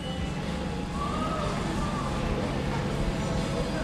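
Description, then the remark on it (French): The entrance door of a gym club gives off an odd, wavering tone that sounds like a siren, rising and falling faintly over a steady wash of loud background noise for a couple of seconds. “C'est la porte d'entrée du club de gym. Hein. Faut pas se méprendre, même si elle fait un drôle de son.”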